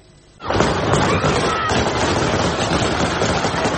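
Gunshots fired into the air by the Taliban erupt after a brief quiet, becoming a dense, sustained roar of rapid cracks blended with shouting voices and noise that continues steadily to the end.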